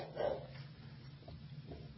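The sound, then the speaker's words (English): A dog barks once near the start, followed by a couple of fainter, muffled yips, all set against a steady low hum with no talking. “What are you barking at?”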